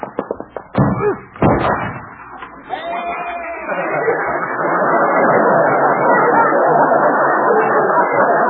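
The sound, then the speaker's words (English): A goat butts into a closed door, a few heavy, booming thuds in quick succession, then a swelling wash of loud crowd noise that carries on to the end. “At least Doc will have to get a new door. Maybe he'll have to get a new goat.”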